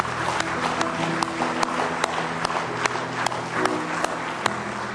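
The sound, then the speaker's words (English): An audience at a Saturday night worship service claps hands in praise of the Lord in sustained, dense applause, with sharper individual claps popping out of the steady wash of sound for the full five seconds, no talking over it. “Let's give Him a real good hand clap of praise if you love Him tonight.”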